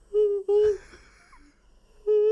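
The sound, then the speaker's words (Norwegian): A man imitates the squeaky peeping noise he makes in his sleep when trying to shout in a dream: three steady, high-pitched whining peeps, two in quick succession, a short pause with faint breathy sounds, then a third. “Og jeg får beskjed, du piper.”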